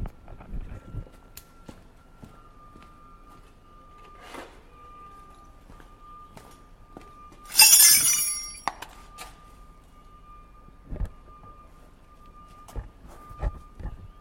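A wrench taps against wheel spokes to check their tension, in a few scattered metallic knocks, one louder rattling strike in the middle, while a steady high ringing tone hangs on between the hits.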